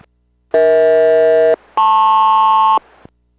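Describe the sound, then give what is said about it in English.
A SELCAL radio call tone during a radio check between Boeing 246 and Boeing Everett, SELCAL code Echo Hotel Lima Papa: two steady, buzzy tone bursts of about a second each, separated by a brief gap, the second pitched higher. Loud and clear, with no talking. “Boeing Everett, Boeing 246, radio check and cell call.”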